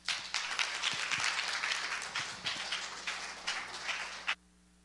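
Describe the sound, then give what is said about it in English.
An audience applauds steadily for about four seconds to welcome a speaker, a dense wash of many hands clapping, then cuts off abruptly into near silence. “Don't clap for me, but do welcome him with applause, and let's continue in prayer for this time together as he shares for us.”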